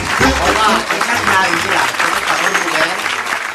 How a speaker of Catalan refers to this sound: Mira com ens aplaudeixen, amb tots vostès,